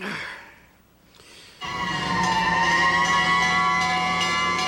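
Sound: fire engine siren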